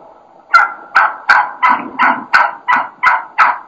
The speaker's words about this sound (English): I think this is just classic, you know, kind of excited, kind of aggressive hen yelping at its best.